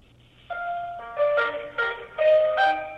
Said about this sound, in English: Okay, so there's hold music and there's a phone tree. This all feels very like the most normal thing in the world.